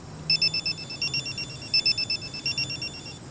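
A telephone rings with rapid, evenly pulsed electronic trills in repeated bursts, clear, with a faint low hum underneath and no one speaking.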